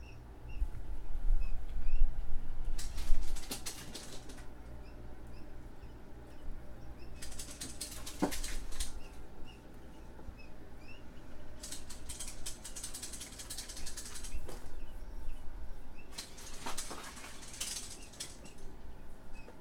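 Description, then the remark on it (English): A battery-powered toy with a low battery chirps weakly in short, repeating bursts every few seconds, with a faint mechanical ratcheting whir between them. No one speaks. “The battery's low. It's not chirping quite as loudly.”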